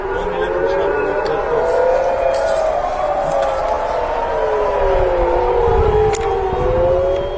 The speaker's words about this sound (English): Air raid sirens have been heard across Israel after Iran reportedly launched more than 100 missiles at the country.